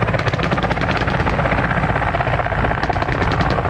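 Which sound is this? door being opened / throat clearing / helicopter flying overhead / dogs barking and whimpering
helicopter flying overhead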